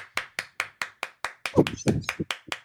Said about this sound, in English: I was waiting for the roll to come in, but it's never going to come in. So I'm going to be clapping for like 50 years.